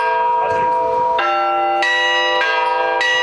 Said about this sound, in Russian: Юные казачата услышали мастерски исполненный звон. Но главное, каждый школьник попробовал и себя в роли звонаря.